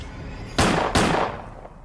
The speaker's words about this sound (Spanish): Cuando yo iba allá en el puente, escuché dos disparos.